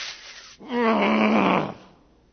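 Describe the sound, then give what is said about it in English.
A voice imitates a growl: a single low, rough, throaty rumble lasting about a second, fairly loud, rising in quickly and then fading out, with no words spoken. “Has anybody ever growled at you?”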